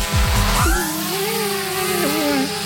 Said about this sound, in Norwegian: jeg klarer ikke helt å høre deg gjennom lyden av dronen her.